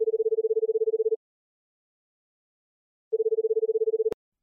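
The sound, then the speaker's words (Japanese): A phone ringback tone on an outgoing call to a teacher, placed by tapping the call button: a steady pulsing tone for about a second, a pause of two seconds, then a second burst cut short by a sharp click as the line connects. “さてと、それでは先生ともう一度 電話しますかね。”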